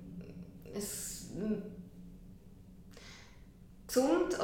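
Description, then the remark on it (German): A sneeze bursts out as a sharp, hissing, breathy blast, followed by a softer breathy rush, before a voice starts speaking at the very end. “Gesundheit”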